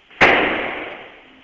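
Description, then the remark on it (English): A single sharp gunshot cracks out loudly about a block away, followed by a long echoing decay that fades over about a second, with no voices present. “That is gunfire, yes. Is it right around where you are? Maybe a block away.”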